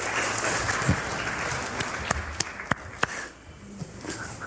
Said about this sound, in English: I enjoy spontaneous applause at God's word. Isn't that good?